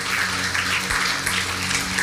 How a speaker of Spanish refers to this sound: Él sigue siendo experto en dar el pan de cada día. Dale un fuerte aplauso a Dios, porque es el mismo Dios.